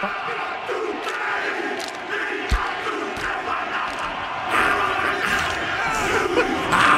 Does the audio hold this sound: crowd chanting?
yes